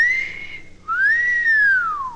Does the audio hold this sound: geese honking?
no